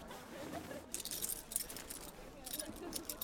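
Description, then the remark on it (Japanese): Metallic jangling of a pickpocket's coin pouches and strung coins (zenisashi), a bright clinking shuffle coming in short bursts, with faint room noise between the rattles. “小銭袋や銭差しがそんなに。”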